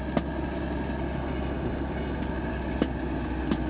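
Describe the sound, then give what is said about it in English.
A tractor engine drones steadily overhead, a continuous low rumble with faint higher whine, broken by three brief sharp clacks spaced through the sound. No one speaks. “There's a nice tractor coming up above us right now.”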